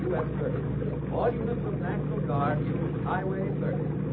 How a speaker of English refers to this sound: Where's that radio coming from? A rescue boat. All the rivermen help when there's a flood like this.